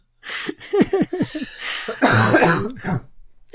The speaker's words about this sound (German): Du, Entschuldigung, Leute, wegen dem Husten. Tut mir echt leid.